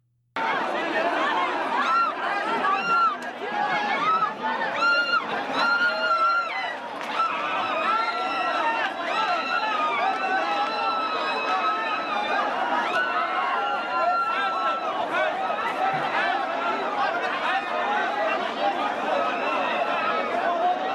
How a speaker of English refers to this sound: Now, you're not going to be able to see what I'm saying here, but listen to the audio and just imagine this. You know, there's dozens, if not hundreds of guys are dragging this woman into the subway.